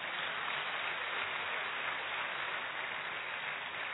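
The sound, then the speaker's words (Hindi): An audience claps steadily, a dense, even wash of applause that holds at the same level for several seconds with no voices over it, thanking a speaker after his talk. “एक बार हम सर का जोरदार तालियों से धन्यवाद करेंगे।”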